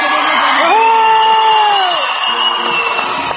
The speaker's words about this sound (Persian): هیچ دنیا اینقدر آدمای با محبت و مهمان نواز مثل تاجیکستان خدا شما بده. به افتخار خودتون سوت بلند بزنید پدر.